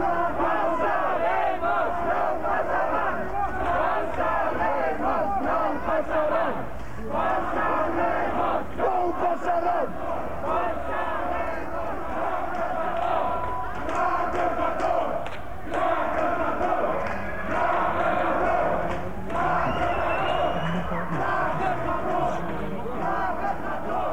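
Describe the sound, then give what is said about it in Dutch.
A dense crowd of protesters shouting and chanting together, loud and continuous, with a busy outdoor din as the group moves along the Roemer Visserstraat between lines of riot police. “Nog steeds staat de straat vol met ME'ers, waar de groep actievoerders tussendoor moet lopen.”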